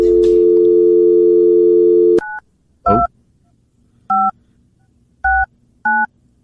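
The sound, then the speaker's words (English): A steady dial tone cuts off, followed by a series of short, evenly spaced keypad beeps, each a distinct two-tone chirp, loud with quiet gaps between them, as a phone number is dialled to call Corby Davidson. “Let's give somebody a call here, shall we?”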